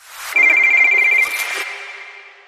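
A telephone ringtone trills loudly with a rapid warbling tone for about a second, then a brief sustained tone fades out into a decaying ring. No voices are heard.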